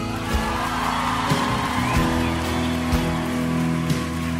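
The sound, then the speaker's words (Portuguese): An audience applauds Jesus during a worship song in a steady, dense wash of clapping that lasts throughout, layered over sustained low musical tones, with a few sharper thumps punctuating it. “Pode aplaudir Jesus.”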